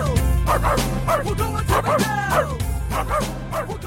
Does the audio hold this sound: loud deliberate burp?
no